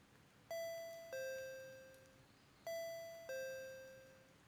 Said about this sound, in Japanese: 何度かインターホンを押すけれど返事はありません。